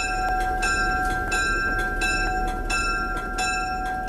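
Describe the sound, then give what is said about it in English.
The Cheat Mountain Salamander passenger excursion train, which takes up to 130 passengers on a 128-mile round trip from Elkins, rolls steadily along the rails with a continuous heavy rumble and a regular clack of wheels over track joints, while a sustained ringing tone hangs above. No one speaks. “The Cheat Mountain Salamander train takes up to 130 passengers on a 128-mile round trip leaving from Elkins.”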